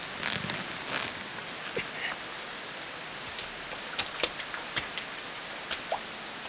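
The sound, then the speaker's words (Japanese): Steady rain hisses down with scattered sharper drops pattering and splashing, a continuous wash of noise at moderate volume with no voices. “なんだってこんな雨の日に戦わなきゃならねえんだ。”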